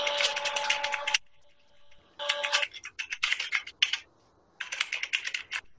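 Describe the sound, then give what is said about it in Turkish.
Bursts of rapid typing by a person sitting at a computer keyboard, crisp clicks in three clusters separated by short pauses, with a faint electronic tone behind the first burst and no voices. “Karakter bilgisayar başında yazı yazıyor klavyeden.”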